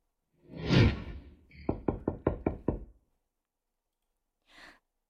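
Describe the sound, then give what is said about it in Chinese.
A heavy sigh, then six quick, firm knocks on a door locked from the inside, in a steady, loud burst, followed after a pause by a brief soft breath or rustle. “你怎么又把门反锁了？”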